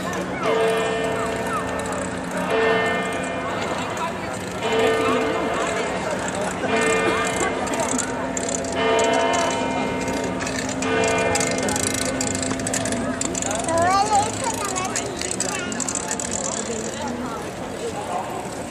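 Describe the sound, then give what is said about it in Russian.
A church tower bell tolls steadily, one resonant strike about every two and a half seconds, each ringing tone lingering and fading, over a busy outdoor background with voices. “Там на башне-то колокол, наверное, подвешен.”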